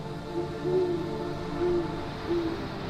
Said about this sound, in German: Eine Eule fliegt zwischen den Ästen der Bäume umher